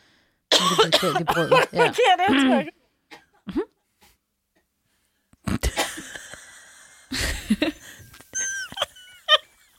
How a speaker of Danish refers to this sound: Okay, så hvis man hoster nu om dage, hvordan vil I holde for munden? Spørger jeg bare lige her.